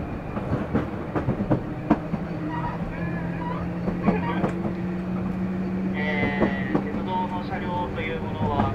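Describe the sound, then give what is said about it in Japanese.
A Chitetsu electric train on its final run after 57 years of service rolls along the rails with a steady low motor hum and a regular clickety-clack of wheels over rail joints, recorded from inside, with a brief high squeal near the end. “車両グループの方ともお話をしまして、本日この運転をもちまして本当の本当のラストランでございます。”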